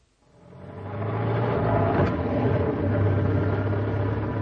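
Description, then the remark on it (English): A car fitted with snow chains drives steadily on a slippery snowy road, with a low engine drone and broad rumbling road noise, fading in over the first second, then holding fairly loud with no voices. “It's a bit slippery, I'm afraid. Car tends to slide about, even with the chains.”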